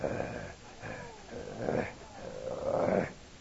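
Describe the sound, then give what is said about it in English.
A low, guttural growl rumbles in several swelling surges, rising and easing over a few seconds, with no talking alongside it. “And then you hear this low guttural growl.”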